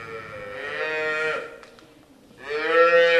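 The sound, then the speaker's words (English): Black and white Holstein dairy cows in a large wood-framed freestall barn moo twice, loud drawn-out lowing calls with a rich buzzy tone, the first lasting over a second, then a brief quiet gap before the second begins. No one speaks. “Hundreds of black and white Holsteins are munching on piles of feed or lounging in their concrete pens.”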